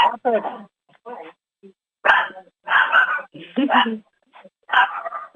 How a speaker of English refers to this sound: Now, is that Willow's dog? No, it's Robin. Is Robin's dog? Yes. Dog.